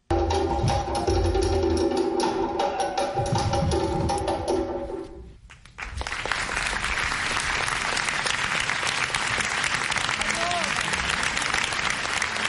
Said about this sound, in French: Acclamé par la foule